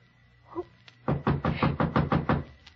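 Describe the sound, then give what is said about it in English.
A rapid series of about eight firm knocks on a wooden door, evenly spaced and fairly loud, preceded by a brief faint voice-like murmur. “Someone at the door.”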